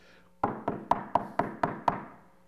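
Seven firm knocks on a wooden door in a steady, evenly spaced rhythm, each with a short resonant thud, fairly loud with no voices.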